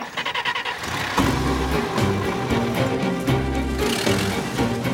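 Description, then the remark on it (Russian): A car engine cranks with a few quick stuttering pulses, catches, and settles into a steady, fairly loud running hum as a chauffeur drives the car away. No voices are heard. “Садится в машину. Даю 3 дня. Говорит шоферу. Поехали.”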